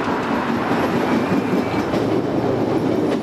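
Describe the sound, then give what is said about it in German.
A Chicago subway train rumbles steadily along the rails, a dense continuous roar with faint clattering and a thin high squeal briefly riding on top, with no voices. “Doch eine kurze Fahrt mit der U-Bahn reicht aus, um ein anderes Chicago kennenzulernen.”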